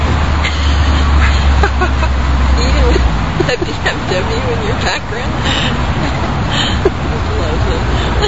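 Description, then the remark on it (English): Loud, raw engine exhaust roars with no muffler, a deep rumble strongest in the first few seconds, mixed with street traffic and indistinct background voices. “I love no mufflers.”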